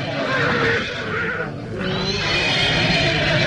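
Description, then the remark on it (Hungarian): A horse whinnies loudly as it bolts and throws its rider, a harsh, sustained neigh that briefly dips midway before surging again over a rough, noisy background. “Nézd csak, Jusszuf lova megbokrosodott, levetette gazdáját.”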